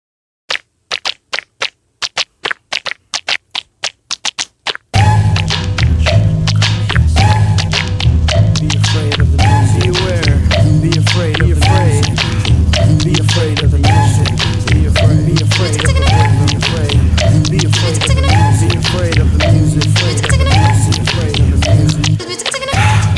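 A hip-hop track opens with a few seconds of sparse, tapping percussion hits, then a loud, dense beat with heavy bass drops in and drives steadily to the end.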